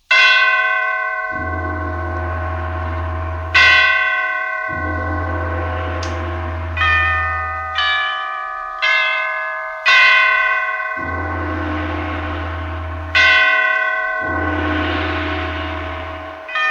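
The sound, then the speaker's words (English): The great bells of St. Petersburg toll a requiem after the death of Catherine the Great, deep strikes one after another in a slow, overlapping sequence, each ringing out loudly and decaying into a rich, sustained hum with no voices. “Catherine the Great had just died, and the great bells of St. Petersburg tolled their requiem.”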